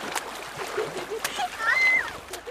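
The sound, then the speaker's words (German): A splash of a boy running across a board and jumping into water, with quick bursts of spray and sloshing over a couple of seconds, a brief whistling tone rising in the middle, and faint voices mixed in. “rannte über das Brett und sprang mit einem lauten Platsch ins Wasser.”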